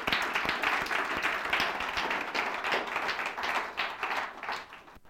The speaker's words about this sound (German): Mega vielen Dank, dass ihr da gewesen und habt so stark mitgeholfen. Das ist einfach nochmal ein mega Applaus wert.